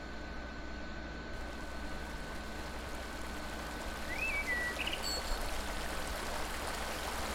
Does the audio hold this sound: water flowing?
yes